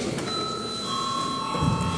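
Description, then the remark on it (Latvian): A chamber bell rings at a session of deputies, with a sustained, steady tone that holds for about two seconds, heard moderately loud over a hum of room noise. “Paldies, lūdzu zvanu.”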